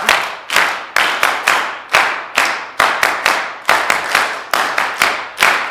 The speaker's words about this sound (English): Oh, wow! You got it. All right, so now everybody's laughing, smiling. You clapped your hands. They're starting to burn.